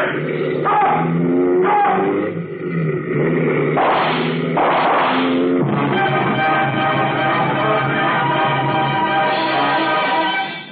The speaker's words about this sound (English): Behind me, I heard the roar of motorcycles as some of the troopers came after me.